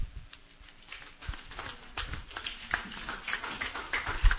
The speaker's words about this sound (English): A round of applause.